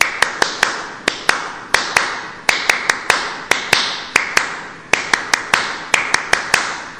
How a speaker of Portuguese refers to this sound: E uma das sensações desse encontro foram as palmas dos escoteiros. Vamos fazer aqui para os nossos companheiros ouvir como são as palmas dos escoteiros?